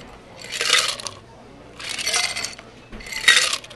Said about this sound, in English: And we're going to throw it back and forth from the shaker into the glass.